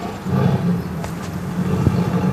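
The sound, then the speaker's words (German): A tigress in an enclosure roars and growls in a low, sustained rumble lasting the whole moment, loud, with no talking over it. “Also die Tigerin scheint etwas ungehalten zu sein.”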